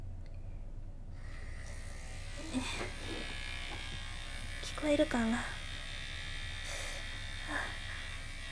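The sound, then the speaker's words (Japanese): An electric massager hums on a low setting, a steady even buzz that starts after a second and runs to the end, with a short spoken phrase and a few brief vocal sounds over it. “まずは電話弱にして当てていきます。”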